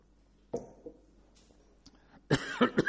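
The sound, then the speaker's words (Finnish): A person coughs in scattered bursts, brought on by getting excited while talking, first a few isolated coughs, then a rapid cluster of harsh coughs near the end, with no talking. “Mulla niin helposti rupeaa yskittämään, kun mä vähänkin vaan innostun.”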